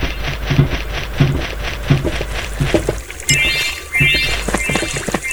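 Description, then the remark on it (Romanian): Water pours steadily into a container in repeated rhythmic surges, with splashing and sloshing and a rising gurgle toward the end. “Vedem în câte chive ce mai putem pune apă.”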